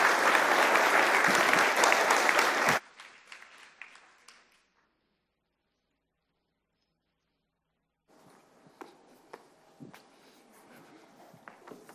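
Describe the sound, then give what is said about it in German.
A burst of loud applause from a church audience that cuts off abruptly after about three seconds, followed by silence, then faint scattered taps and shuffling sounds. “Und es gibt noch ein kleines Geschenk und einen herzlichen Applaus.”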